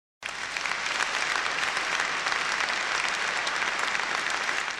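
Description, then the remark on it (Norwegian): Loud, sustained applause from a large audience thanking the partners behind a new centre, a dense wash of clapping that starts abruptly and holds steady at full strength for several seconds, with no voices standing out. “La oss takke dem med stormende applaus.”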